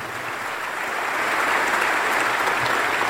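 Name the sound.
crowd applause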